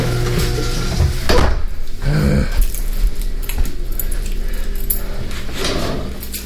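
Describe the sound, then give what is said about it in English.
Car keys, including a wrong car key, jangle and clink in a steady, bright metallic rattle, with a louder flurry of jingling early on before settling into softer, continuous shaking. “Oh, wrong key, damn it.”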